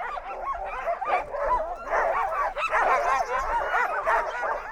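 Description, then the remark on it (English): A big chorus of nearly 200 sled dogs at the Norris Glacier Dog Sledding Camp, on a glacier 3,000 feet above sea level, barks, yips and whines all at once, a dense overlapping clamor of many animals that stays loud and continuous throughout. “Each year from late April through mid-August, nearly 200 dogs from all over the U.S. live on the glacier.”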